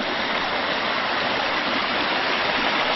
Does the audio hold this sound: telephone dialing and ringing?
no